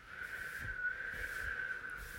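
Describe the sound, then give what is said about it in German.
A steady whistled tone holds for about two seconds with a slight wavering pitch, imitating the howl of wind, alone with faint background rumble. “Oder wenn es windig wird, kann man hier auch so ein pfeifendes Geräusch machen.”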